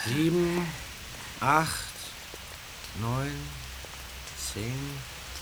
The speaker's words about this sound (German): Jetzt fängt es auch noch an zu regnen. Mist.